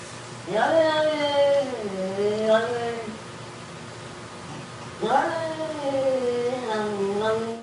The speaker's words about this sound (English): All right, you get the idea. Yeah. Yep. It's a cat.